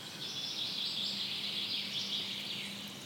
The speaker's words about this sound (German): Die Vögel singen ein Lied.